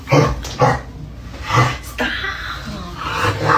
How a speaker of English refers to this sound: Hey, yo, the barking noises is crazy.